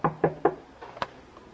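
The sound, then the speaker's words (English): Three quick, evenly spaced knocks on a wooden door of a room down a hall, fairly loud, followed by a couple of lighter taps, with no voices. “I knock on the door.”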